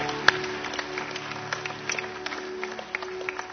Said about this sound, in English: Let's give these folks a big, big hand clap. Over here, over there.